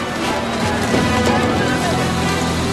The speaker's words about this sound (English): And they're through! And there was no stopping the boat boys' machine. The sheer weight and speed of the boat let it crash straight through those harbour gates.